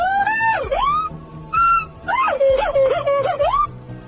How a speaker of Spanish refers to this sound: Y para que veáis que no es el único mono que tiene un sonido peculiarísimo, a ver qué os parece este otro.